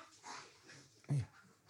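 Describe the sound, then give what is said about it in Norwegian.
Soft, breathy wheezing leads into a single short, strained whimper from a dog, loud and falling in pitch, then quiet panting-like breaths. “Det bare var en hund som holdt på å eksplodere for dem som hører på, da.”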